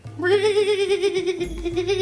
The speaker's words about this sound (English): Speaking of wild horses, I think that I heard a horse and cart pull up.